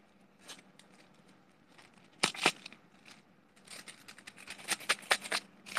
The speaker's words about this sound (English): Those are like the coins. It's like really full in the coin pouch. So that's why it makes like kind of muffled sound because it's really full.